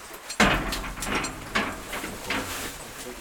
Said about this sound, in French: La porte se referme et le royaume minéral souterrain vous accueille.